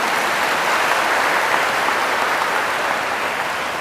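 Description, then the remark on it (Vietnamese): An audience at a Vietnamese Buddhist teacher's talk claps in a loud, steady burst of applause to pledge participation, holding at full strength for several seconds, with no voices above it. “Nếu các con thấy lời khuyên của thầy là hữu ích thì hãy cho một tràng vỗ tay thật lớn để cam kết tham gia.”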